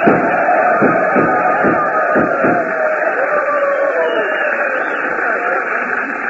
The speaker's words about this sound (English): Well, how's that for an ovation, Jackson? Gunshots and everything.